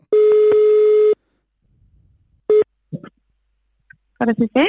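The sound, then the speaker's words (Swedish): An outgoing phone call to a hair salon in Karlstad rings: one long steady tone of about a second, a pause, then a short second burst, followed by a voice answering on the line. “Och ringer till en frisörsalong i Karlstad.”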